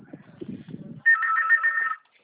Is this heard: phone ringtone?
yes